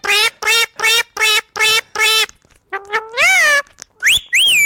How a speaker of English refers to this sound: No, that's a parrot. It's a talking bird. That is a live parrot.